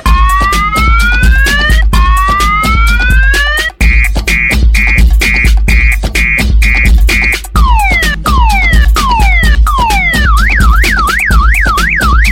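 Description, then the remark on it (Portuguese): A loud alarm siren cycles through patterns: long rising wails, rapid beeping pulses, falling chirps, then a fast warble. It repeats continuously over a steady low rumble with no talking. “Eu disse calma aí, doutor, é só a dança do alarme.”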